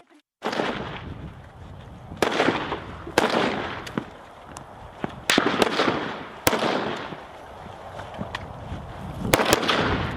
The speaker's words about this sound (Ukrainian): Дивіться, хлопці, стоїмо на рубіж відкриття вогню. Автомат на запобіжнику. Не забуваємо, що ми дублюємо всі команди, тому що при пострілах ми можемо когось не дочути.